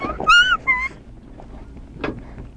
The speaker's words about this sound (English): What's this? The doggy.